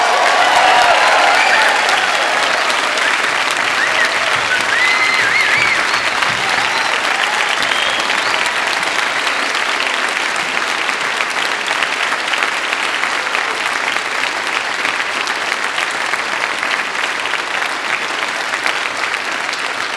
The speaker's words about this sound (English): And now is the time to offer your congratulations via applause.